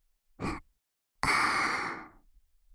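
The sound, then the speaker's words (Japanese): A short inhale followed by a long, breathy exhale blown into the listener's ear, airy and intimate, fading out over about a second with no talking. “思いっきり私の吐息を受け止めてくださいね、お客様。”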